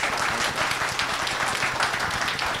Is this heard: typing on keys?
no